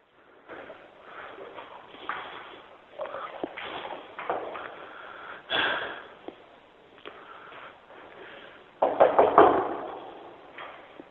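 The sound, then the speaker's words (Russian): Knocking on a door, a few scattered raps at first, then a quick, louder flurry of knocks near the end, with faint shuffling in between. The sound is slightly muffled. “Слышишь звонок, стук? Конечно. Дверь слышишь?”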